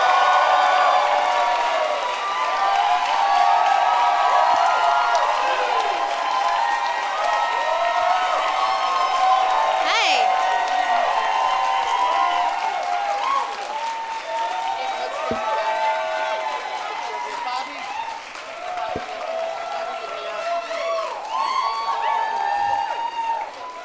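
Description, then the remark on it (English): A crowd applauds and cheers loudly and steadily for about twenty seconds as four guests are welcomed out, with whoops and shouting voices rising over a dense wash of clapping. “Please give a big warm welcome”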